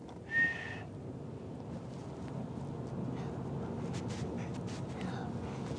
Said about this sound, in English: Do you think that's loud enough? I think it's fantastic. In 2 days, you have got so much better at whistling. Where did you practice?